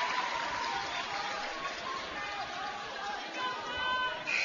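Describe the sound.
Steady crowd chatter fills a basketball arena at a Division III game, its sides nicely filled and a group of kids from Burleville present, a dense babble of many overlapping voices at an even, moderate level, with a few brief high squeaks rising near the end.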